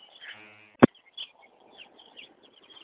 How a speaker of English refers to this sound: Right now, chirpy, chirpy birds, I'm at the back gate.